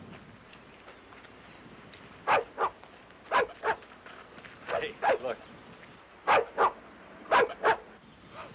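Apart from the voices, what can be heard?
dog barking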